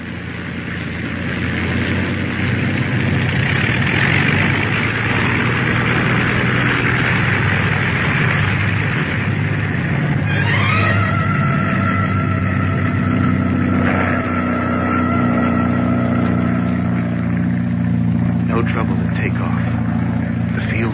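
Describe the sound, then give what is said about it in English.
A loud, steady airplane engine drones, then is revved up again so it can be listened to, its pitch climbing partway through and settling into a higher, sustained roar with clear whining tones. “Rev her up again. We'll listen once more. Well, the engine's doing as well as you can expect in this weather.”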